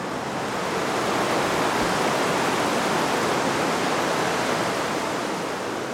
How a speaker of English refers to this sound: because there's something about standing beside that sound of rushing water. I wasn't aware of being even slightly stressed when I came here, and I feel so much better now. No, it's a powerful and relaxing thing to stand next to running water.